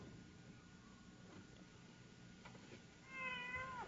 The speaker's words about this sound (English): Hey, kitty. Hey. Oh, God. Yeah, another voice heard.